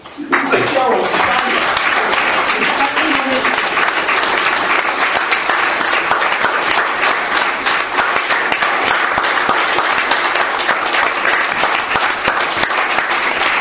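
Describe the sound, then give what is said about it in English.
A large conference audience breaks into sustained, loud applause for the conference organisers, dense clapping continuing steadily for over ten seconds after a brief voice at the start. “So if I could just invite the organisers to stand up, can we just give them a round of applause?”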